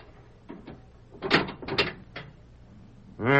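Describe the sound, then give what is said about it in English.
A series of metallic clanks and rattles as a sheriff works a key in a heavy cell-door lock, coming in several irregular bursts before a louder, sustained tonal sound starts abruptly. “The sheriff's going to unlock your door and let you out.”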